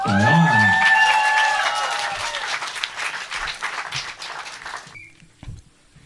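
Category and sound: crowd, audience applause and cheering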